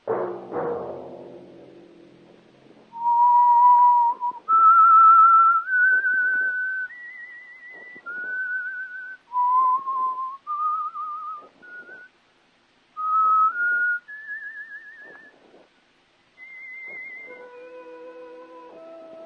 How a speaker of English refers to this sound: That whistle be your signal for the Signal Oil program, The Whistler.